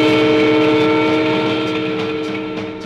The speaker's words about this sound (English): Watch out for the train.